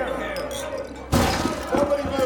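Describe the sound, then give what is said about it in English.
Glasses clink together once in a toast to Congressman Yancey at a hotel. A bright, sharp ringing strike sounds over a murmur of voices. “Meek, raises his glass and offers a toast.”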